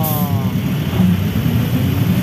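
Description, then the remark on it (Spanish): A city bus (micro) engine rumbles steadily and loudly throughout as it goes by in the street, with a brief high whine at the very start and no speech. “Ese ruido de fondo es de micro.”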